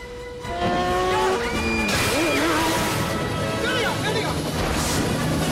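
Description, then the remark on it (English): A speeding snowmobile smashes through a closing glass door with a loud crash, bursting out over its roaring engine and squealing tones, followed by another sharp impact near the end. “A glass door closes in front of Natalie and Cody, but they smash through it.”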